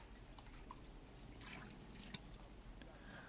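Water trickles and pours softly, broken by a few small drips and one sharper splash. The level stays low and steady, and no one speaks.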